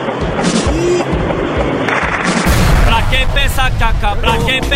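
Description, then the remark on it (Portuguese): Gunfire in a shootout as military police surround the area and take cover: loud, dense crackling bursts of shots in quick irregular succession, with raised voices shouting over the din in the second half. “Eles se protegem do tiroteio.”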